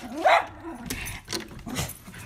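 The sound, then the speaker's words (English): A dog lets out one sharp, loud bark, then follows with a few softer, shorter barks and yips over the next couple of seconds. “Honey, could you please take the dog out for a walk?”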